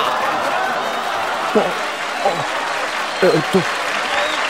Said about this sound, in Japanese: それでは皆さん、盛大な拍手を。